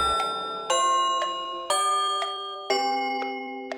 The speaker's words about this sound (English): The mouse ran up the clock. The clock struck four.